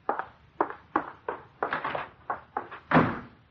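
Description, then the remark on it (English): A quick run of muffled thumps, like a boy's hurried footsteps as he runs to his room, ends with him closing the door in a louder, fuller thud. No voices. “What did I say, that he should run to his room and close the door?”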